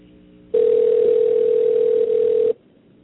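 A single two-second burst of a telephone ringback tone, a steady electronic hum as an outgoing call rings unanswered, standing alone against quiet line noise with no one talking.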